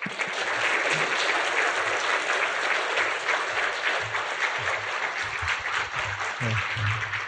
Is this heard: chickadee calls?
no